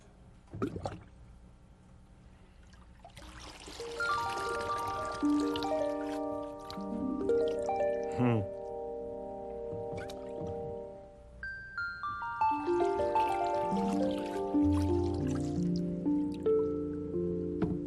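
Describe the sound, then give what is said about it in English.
Water trickles and pours through a pipe put into a backyard water table, with gurgling, hollow resonant tones that rise and shift in pitch as the flow fills and splashes, in two bursts with no talking. “I think I'll put the pipe in the water.”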